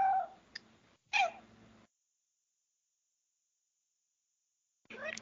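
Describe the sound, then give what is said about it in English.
A female cat meows loudly right next to the microphone, two drawn-out calls in quick succession, then a few seconds of silence before a third meow begins at the very end. “My cat has a lot to say on the subject, apparently.”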